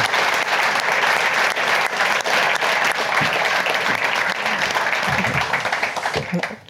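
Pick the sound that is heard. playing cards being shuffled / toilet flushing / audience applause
audience applause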